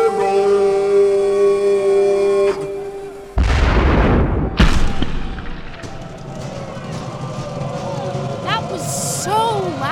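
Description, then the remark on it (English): A large homemade cannon fires with one deep, thunderous boom, followed by a sharp crack and a rolling rumble that fades as people talk in the background. “That is a huge cannon.”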